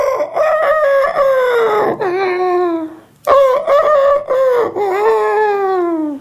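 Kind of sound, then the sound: vocal imitation, imitated rooster crowing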